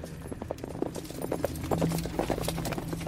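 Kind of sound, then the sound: animal, horse hooves clip-clopping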